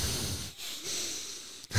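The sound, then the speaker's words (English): A voice imitates heavy, snuffling breathing: noisy breaths with a brief pause midway and a sharp intake at the end, with no words spoken. “Heavy breathing. You got a lot of heavy breathing. Snuffle up, I guess.”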